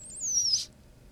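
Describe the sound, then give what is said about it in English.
A lizard, held into its cage with a microphone about 3 inches from its head, opens its mouth and expels air in a single thin, high-pitched squeak lasting about half a second, wavering then gliding slightly, with only a faint low hum underneath and no talking. “He expelled some air there. That was it. That was the squeak.”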